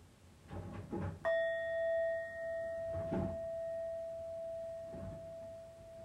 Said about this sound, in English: All right, so let's listen to the bells to take us into our sitting together.